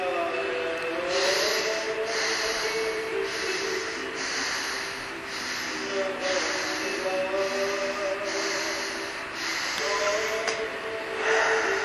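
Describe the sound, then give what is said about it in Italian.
Slow, steady breathing through the nose, the first five breaths of a seated breathing exercise, a series of soft airy inhales and exhales repeating in an even rhythm, each breath a broad hiss with a faint tonal hum beneath, no talking. “ecco, vi faccio vedere e faccio sentire i primi 5 respiri, dopodiché voi proseguirete, ok?”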